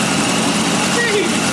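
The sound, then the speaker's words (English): A third-generation LT1 Corvette V8 engine with about 425 horsepower, an aluminum head and a big Edelbrock carburetor idles, a loud, steady rumble with a constant low throb that holds evenly throughout without revving. “That's an LT1, third generation LT1 Corvette motor.”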